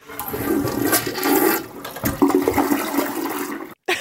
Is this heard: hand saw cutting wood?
no